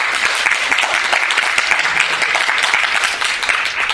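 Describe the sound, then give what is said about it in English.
Steady audience applause for Raina Telgemeier and Lynn Johnston fills the whole stretch, a dense, even wash of many hands clapping at a loud, constant level with no voices standing out. “So please give a round of applause for these two amazing participants.”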